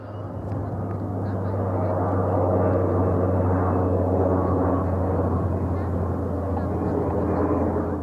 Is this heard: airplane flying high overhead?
yes